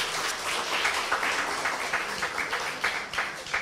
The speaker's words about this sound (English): Thank you so much for reading so well. She deserves a round of applause, don't you think?